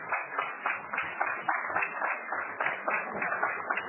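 Steady audience applause, many hands clapping in a dense, even patter that holds for about four seconds, with a muffled, thin tone and no voices.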